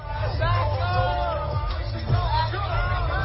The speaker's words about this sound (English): people urging others to back up as the crowd surged toward the stage